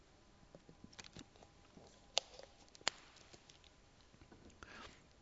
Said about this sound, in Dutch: Ondertussen neem ik eerst nog even een slokje water. Want het vlees is niet alleen zwak, maar het is soms ook dorstig.